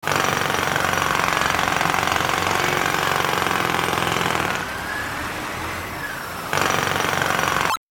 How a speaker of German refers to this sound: Baustelle.